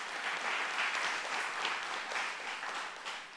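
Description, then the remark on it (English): An audience claps their hands in sustained, dense applause, a hand clap of praise and appreciation for God, a steady wash of many overlapping claps holding at an even level for several seconds before easing slightly at the end. “Give him a hand clap of praise and appreciation.”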